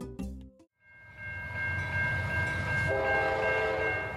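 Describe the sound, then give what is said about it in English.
A train rumbles loudly past, its cars rattling steadily on the rails while sustained horn tones sound over the clatter. A brief knock comes just before the noise swells. “watching the cars rattle past on the rails inspired a question for Why So Curious”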